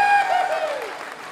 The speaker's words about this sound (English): So I've been really privileged that the theater group here has been doing a play of mine called Blood. How about a round of applause for the Cincinnati Players?